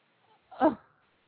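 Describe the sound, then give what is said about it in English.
A single short bark from a neighbor's dog, moderately quiet, standing alone against a faint background with no talking. “Is that your dog or are the cops chasing you? No, it's the neighbor's dog.”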